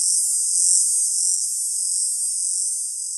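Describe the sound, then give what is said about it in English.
A continuous, very high-pitched whine from the coastal whiner, an Australian insect species. Its call is a steady, shrill buzz with no breaks, fairly loud throughout, briefly joined by a faint low rumble at the start. “The coastal whiner.”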